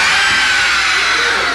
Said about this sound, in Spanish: Me encontré con una casa abandonada. Se oían gritos.